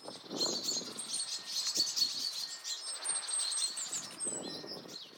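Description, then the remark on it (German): A busy, agitated chorus of small songbirds, chaffinches, blackbirds and tits, scolding together as they mob an owl, with overlapping high, sharp chirps and chatters continuing throughout at moderate loudness. “Und alle gemeinsam, es war eine Mischung aus Buchfinken, Amseln, verschiedenen Meisenarten, die alle auf diesen Kauz losgegangen sind.”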